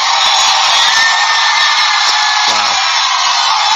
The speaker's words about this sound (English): Some brave people back there. Huge crowd. Very brave people. Wow, look at that crowd. 15,000. More than 15,000.